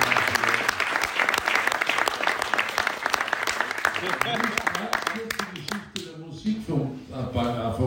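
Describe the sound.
A crowd applauds with loud, dense clapping for about six seconds, then the applause thins out and a man's voice starts talking as it fades.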